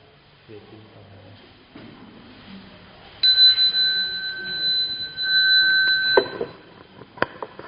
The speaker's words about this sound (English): I ring the bell, okay.